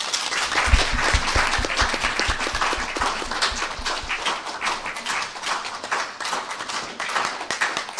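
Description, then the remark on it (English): An audience applauds with dense, steady hand clapping that stays loud and even throughout, a continuous wash of claps with no voices on top, voting by hand claps for whether the session tracks should continue. “Well, not the people here, I think, but since this is the first time we've done these tracks, I would just like to get by hand claps.”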